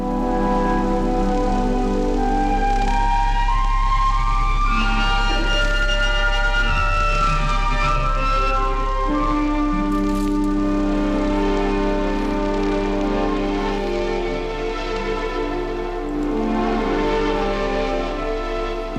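A chamber orchestra rehearses, layering sustained chords and shifting melodic lines at a steady, moderate volume for the whole stretch, with no voices speaking over the music.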